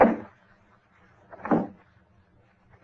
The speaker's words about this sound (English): Step on the porch. What? You said you heard steps on the porch.